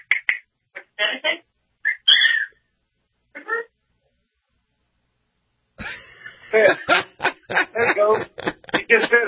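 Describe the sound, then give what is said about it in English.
A pet cockatiel says "pretty bird" in a few short, high, scratchy bursts, followed by a pause and then a person talking steadily. “There you go. He just said it. Pretty bird, pretty bird.”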